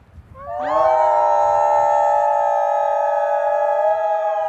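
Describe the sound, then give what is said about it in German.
Visitors at the Colorado Wolf and Wildlife Center howl on command: a chorus of long, overlapping howls rises together after a brief pause and holds steady, loud, with several voices blending in sustained, slightly wavering tones until the end. “Auf Kommando heulen. Das sollen nicht nur die Besucher im Colorado Wolf and Wildlife Center. Im Idealfall tun das auch 80 hier lebende Wölfe.”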